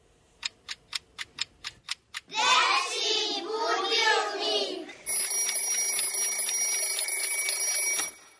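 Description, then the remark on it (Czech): A toy-like alarm clock opening the Serbian children's radio segment "Dečiji budilnik": about eight quick, even ticks, then a bright, childlike sung or spoken passage, followed by a steady, shrill electronic ringing tone that holds for several seconds before stopping. “Dečiji budilnik je ono što će upravo da se desi, jer 3 minuta makar moramo i možemo da odvojimo za najmlađe slušalce.”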